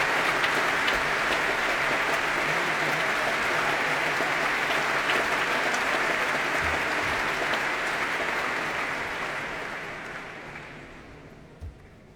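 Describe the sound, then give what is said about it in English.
A large BBC Proms concert audience applauds steadily as conductor David Robertson arrives before the BBC Symphony Orchestra plays the overture to Mozart's The Magic Flute. A dense wash of clapping holds strong for several seconds before gradually thinning and fading toward the end. “And that applause greets the arrival of David Robertson, making the first of his two proms appearances this season as principal guest conductor of the Symphony Orchestra, ready to conduct the overture to Mozart's The Magic Flute.”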